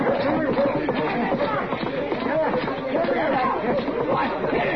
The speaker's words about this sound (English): Wait a minute. What the dickens is going on up the street? I don't know. Get up here. Sounds like a fight. Quite a crowd there, Matt. Yeah. Go ahead, right in front of the Long Branch. That is the fight.